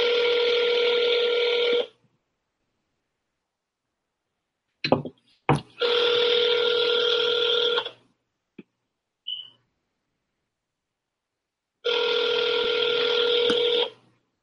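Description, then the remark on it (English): A phone line rings out in long, steady electronic bursts of about two seconds, with silent gaps between them, plus a few sharp clicks and a short beep in the middle. No one speaks. “Why is that ringing out like that?”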